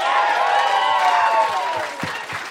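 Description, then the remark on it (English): An audience breaks into loud, continuous applause mixed with cheering and whoops, holding steady before easing off slightly at the end. “Nothing wrong with asking for applause.”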